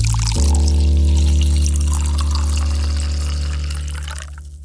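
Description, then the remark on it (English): Inkspot's St. Wrytham Lager pours steadily into a glass for about four seconds, loud, with a hollow ringing fizz that tapers off as the pour ends. No one speaks. “So that's Inkspot's St. Wrytham Lager. Cheers!”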